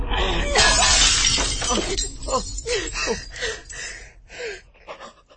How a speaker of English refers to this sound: The last thing I saw before her hand with Neil's ring on it shattered the mirror, was my face.